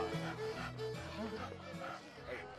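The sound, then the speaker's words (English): A dog named Obie whines and yips during an outdoor walk with North Carolina politician Phil Berger through a downtown Raleigh neighborhood, short eager sounds over a steady background of ambient noise. “Back in Raleigh, the most powerful man in North Carolina politics is going on a walk with his dog, Obie.”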